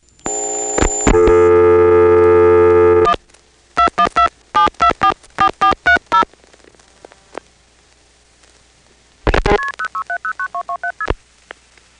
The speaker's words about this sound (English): Again, the register sender will dial 6, the trunk will flash, it'll MF the number I'm calling, which we don't hear, and then when we cut through to the trunk, there will be a loud series of MFs, and that's the number I'm calling from.